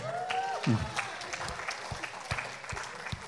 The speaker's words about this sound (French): Oui, applaudissez pour Jésus.